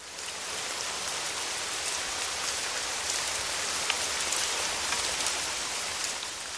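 Steady rain pours down in a dense, even hiss, with fine droplets pattering on a hard surface. No voices, just the continuous wash of falling water throughout.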